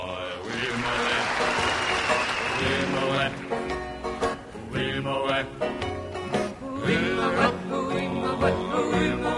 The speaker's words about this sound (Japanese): 拍手の感じからこの曲の浸透具合が分かりますが、まあ、いかに当局が禁止しても、その間ファンはレコードを聴いていたわけですね。